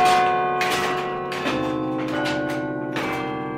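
Church bells ring loudly, with several struck tones at a steady, slightly uneven pace, each strike blooming into long, overlapping resonant hums that sustain throughout. No voices are heard.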